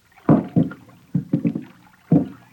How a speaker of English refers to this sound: two shadows push a boat into the river which flows past the camp. Slowly, stealthily, they begin to row toward the fresh-cut logs floating on the surface.